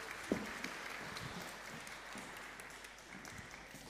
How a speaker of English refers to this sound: But anyway, thank you very much. Excellent. Good job. Round of applause